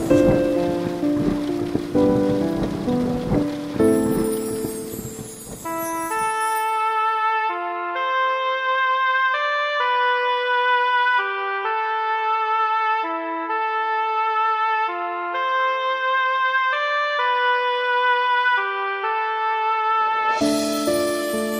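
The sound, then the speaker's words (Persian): Steady hiss of falling rain mixed with music at the start, giving way to clear, sustained melodic tones, before the rain's broad patter briefly swells again at the end. “مرا مستم کن ای مهر و لطافت، مرا خیس از همین پاکیزگی کن، که با این بارش و آهنگ باران من و این روح سرکش همچو یک اسب برقصم”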